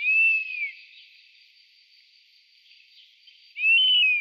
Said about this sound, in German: Ja, und damit hören wir uns nochmal den Wespenbussard an.